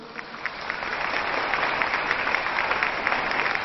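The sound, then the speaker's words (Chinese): Sustained applause from a large crowd at Lu Junhong's World Buddhist Friends meeting, given in thanks to Guanyin Bodhisattva and Lu Junhong: a dense steady patter of many hands clapping at once, fairly loud and continuous throughout with no voices over it. “让我们再次以最热烈的掌声感恩大慈大悲的观世音菩萨，感恩大慈大悲的卢俊宏台长，感谢大家参加本次卢俊宏台长世界佛友见面会”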